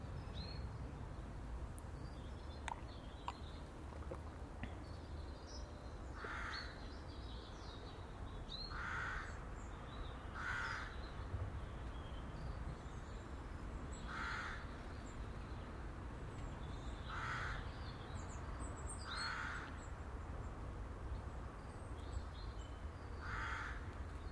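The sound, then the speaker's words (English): A crow caws repeatedly in harsh, evenly spaced calls, about eight in all, some paired, over a steady low rumble of outdoor background noise. “It's nice to hear the birds, the wee singy birds, and even the noisy crows.”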